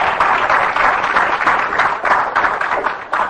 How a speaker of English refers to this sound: Give the Lord a hand clap for that if you believe it. Thank you, Jesus.